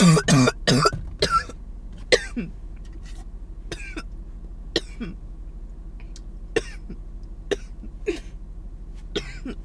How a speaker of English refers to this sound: My coughs could really be a soundtrack.